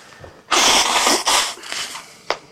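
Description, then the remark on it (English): A single loud, explosive sneeze, put down to bad sinuses, bursts out with a harsh, hissing rush, then trails off into breathy sniffling and ends with a brief sharp click. “Bad sinuses.”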